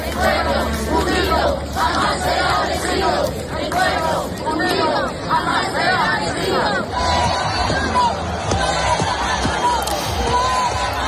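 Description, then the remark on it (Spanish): A large crowd of about 15,000 Venezuelan protesters at the Puerta del Sol in Madrid chants and shouts "Fuera Maduro" and "Maduro dimisión" without pause, demanding transparency in the presidential election. Many voices blend into a loud, steady roar with rising shouted phrases and scattered yells throughout. “Al grito de fuera Maduro, Maduro dimisión, cantando también el himno de su país, 15.000 personas se calcula que acudieron, por ejemplo, a la Puerta del Sol de Madrid para exigir transparencia en estas elecciones y el resultado de las actas.”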